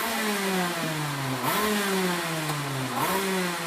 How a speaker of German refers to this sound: Vor den Zelten auf der Wiese sind Rennkarts aufgebockt, über die sich Männer beugen und Motoren aufheulen lassen.